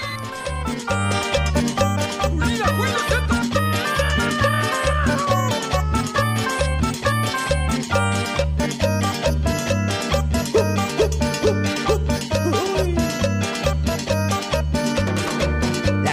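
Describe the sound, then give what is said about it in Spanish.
An upbeat dance song plays loudly and steadily, driven by a pounding, regular bass beat with bright melodic lines and vocals riding on top throughout. “¿Hay alguna canción? Preséntela si tiene...”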